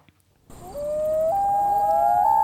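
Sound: common loon call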